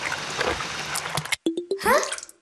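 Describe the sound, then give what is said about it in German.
A gush of rushing, bubbling water breaks off abruptly, then a few quick plops lead into a rising, slurping swoosh as a water droplet is sucked up a pipe from the groundwater. “Doch da wird Kalli Wassertropfen auch schon von einem Rohr nach oben gesaugt.”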